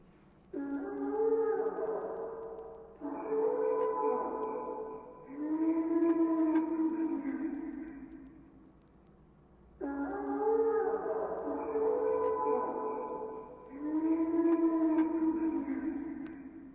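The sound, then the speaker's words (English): Brachiosaurus calls from a film: four long, mournful, howl-like tonal cries in two pairs, loud, each swelling and sliding in pitch over a faint low rumble, with no talking. “Here are my favorite sounds of Jurassic Park's Brachiosaurus.”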